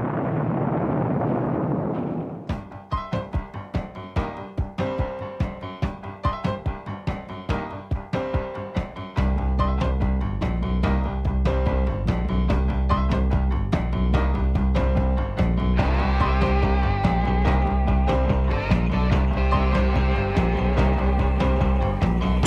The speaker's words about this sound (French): la musique qu'on va entendre, Franz-Olivier Gisbert, devinez ce que c'est, …, par …